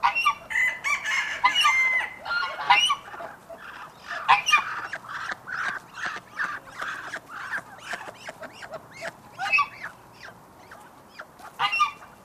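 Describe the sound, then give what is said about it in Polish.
A busy farmyard chorus at an open-air museum: honking geese, quacking ducks and clucking bantam and green-legged hens, calls overlapping continuously, with an occasional crow rising above the clamor. “Słyszymy odgłosy gęsi, kaczek, kurek liliputek i zielononóżek.”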